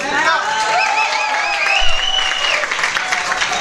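An audience applauds, a dense steady wash of clapping with scattered cheers and whistles rising above it, sustained at an even level for several seconds.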